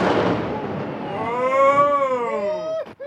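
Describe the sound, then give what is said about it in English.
An explosion set off by Trout Unlimited to demolish an old, unneeded dam on Rattlesnake Creek, just north of Missoula, to restore the waterway: a loud, rough burst of explosive noise fades over about a second, then a long, wavering, tonal cry, like a voice, rises and falls before cutting off. “That explosion was from a recent video shared by the group leading the effort, Trout Unlimited”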